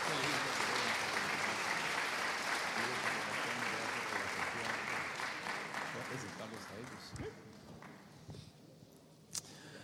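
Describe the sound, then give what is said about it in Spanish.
Loud audience applause, a dense wash of many hands clapping that holds steady, then thins and fades toward the end, leaving a few scattered claps and faint murmurs. The audience welcomes a visiting pastor at a church service. “Y me gustaría que lo recibiéramos con un fuerte aplauso, ¿verdad?”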